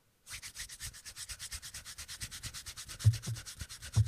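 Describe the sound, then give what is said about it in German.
A voice imitates fast rubbing of lotion on skin: rapid, even swishing strokes, about eight per second, with a hissy high texture and a couple of soft thumps near the end. “Und es klang, ich dachte erst so, ah, da wird jemand eingecremt.”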